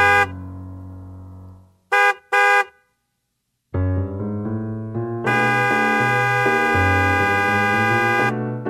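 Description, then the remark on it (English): A car horn honks: one held blast, then two quick toots after a brief pause, followed by long, loud, sustained honking that shifts tone and carries on to the end. “Got to use Twitter, 'cause I can't honk the hell out of my horn.”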